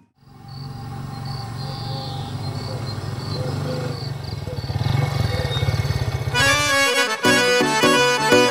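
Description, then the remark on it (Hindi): A motorcycle engine idles and drones steadily, its pitch rising slightly as it revs, before rhythmic music cuts in near the end. “मन्ने सुनया तेरी भतीजी मोटरसाइकिल पे कॉलेज जावे से।”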